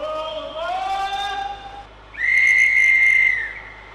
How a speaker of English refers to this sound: But we start today with a toot and a hiss of steam as we clamber on board a special little train on Tasmania's west coast.